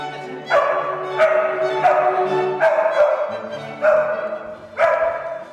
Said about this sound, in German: Das ist eine Herausforderung, denn es ist schwierig, einen Hund dazu zu bringen, genau dann zu bellen, wo wir das wollen.